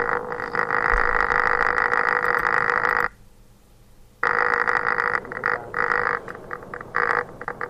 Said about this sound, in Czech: Hele, teďka už ale to vrtání tam je zase nějaký šílený.